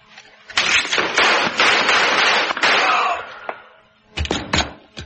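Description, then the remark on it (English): A rapid volley of sharp, loud gunshots cracks repeatedly over a dense wash of noise as a man is shot, fades briefly, then a final quick burst of three or four shots follows. No one speaks. “Well, how am I supposed to be? I just shot a man.”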